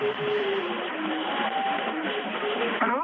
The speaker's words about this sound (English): So what's that tune we can hear in the background? The tune is the Lincolnshire Poacher from the Western number station. So someone's overlaying on a Russian frequency an old Western intelligence number station? Well, certainly the tune of it, yes.